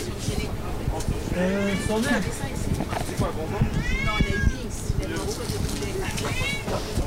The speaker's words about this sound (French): Oh, il y a des chats aussi. Il fait la garde.